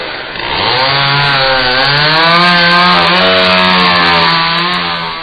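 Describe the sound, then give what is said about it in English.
A chainsaw sound effect roars loudly for about five seconds, its motor droning steadily with slight rises and dips in pitch as it revs, with no voices. “Okay, chainsaw sound minus Laura leaving.”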